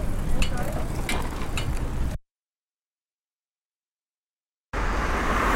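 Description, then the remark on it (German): Steady road traffic rumbles past, cars humming continuously, then the sound cuts out into complete silence for a few seconds before the traffic noise returns. “Habe ich schon mal gesagt, wenn ich diese Autos ankotzen?”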